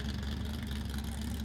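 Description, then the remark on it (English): A 19-foot old-style lake jet boat called the Homewrecker, a sport fishing boat owned and built by Warren Thomas, idles with a deep, even engine rumble and a throaty low throb that holds constant throughout, with no voices. “That's the good old-fashioned lake jet boat right there, ladies and gentlemen.”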